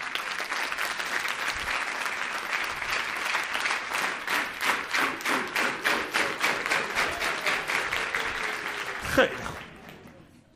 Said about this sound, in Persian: تشویقش کنیم مهمانای ما رو.